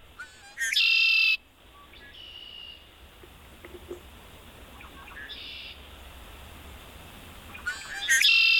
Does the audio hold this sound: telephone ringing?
no